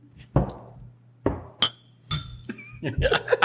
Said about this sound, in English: So here's to the Craft Lounge for bringing great craft beer and other goodies to the masses here in the Inland Empire. Cheers. That's right. Cheers. Cheers. Clink. Bing.